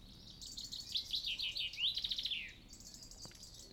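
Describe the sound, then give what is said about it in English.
Morning birdsong: a small bird trills rapid, high-pitched clicking and chirping notes in quick bursts, clear, then fades out over a quiet outdoor background. “I love listening to the birds in the morning, the different high-pitched clicks that some of them make, the wood pigeons, the robins and blackbirds.”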